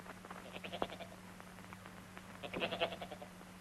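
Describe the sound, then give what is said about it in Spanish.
Sheep bleat in two quavering bursts, one early and one near the end, fairly faint, over a steady low hum with no talking, as soldiers take sheep out of the rear gate of a German military vehicle on a street in Rome at night. “Abre el portón trasero y saca una oveja.”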